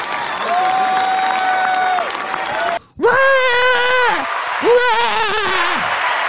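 A church crowd clapping steadily while voices let out loud, sustained whoops and wavering cries over the applause, with a brief drop in noise partway through before the cheering resumes.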